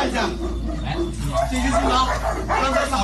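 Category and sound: animal, dogs barking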